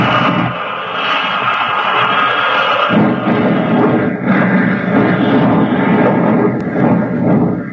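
A propeller plane's engine roars and whines continuously as it dives toward the ground over wheat fields in Kansas after its motor sputters and sprays oil, its loud, strained drone holding steady with a slight shift in pitch partway through.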